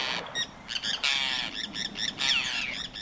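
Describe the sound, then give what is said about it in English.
A Forster's tern gives a series of harsh, raspy, high-pitched squawking calls in quick, uneven bursts, fairly loud and with no voices present. “A forester's tern hovers with quick wing beats before diving headlong into the water to grab a silvery fish just below the surface.”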